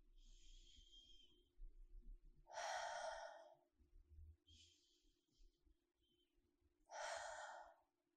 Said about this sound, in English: So no pauses at the top or the bottom. So your rhythm may be slightly faster than you normally breathe on a day-to-day basis. That's okay. But again, just making it nice and deep. In through the nose, out through the mouth.